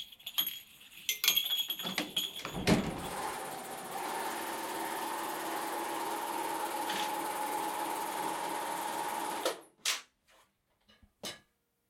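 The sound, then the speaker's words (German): A sewing machine at a fair-clothing maker in Hohenems, Vorarlberg rattles steadily for several seconds, a dense mechanical whir after a few clicks and clatters, then stops abruptly, followed by a couple of brief knocks. “Ja, wer sich jetzt fragt, was das gerade für ein Geräusch war, das war das Rattern von einer Nähmaschine.”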